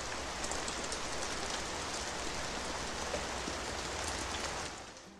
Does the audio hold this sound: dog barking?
no